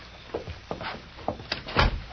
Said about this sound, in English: Here we are. I'll try the door. Go ahead.